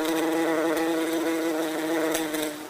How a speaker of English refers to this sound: Put out the food, they'll come buzzing on by. This one's a bumblebee. Big boy.